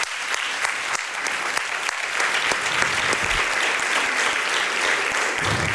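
A room full of people claps steadily for several seconds after a poetry reading, a dense, even patter of many hands with no voices over it.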